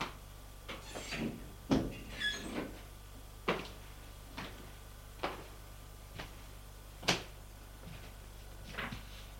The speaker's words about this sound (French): Et il va à la chambre de son ami. Frappe à la porte. Entrez. Il entre.